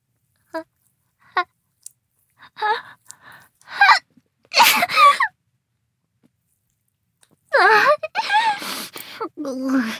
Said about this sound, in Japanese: そんなに嬉しそうにしてるんですか？くしゃみが嬉しいんですか？顔にくしゃみかけられるのがですか？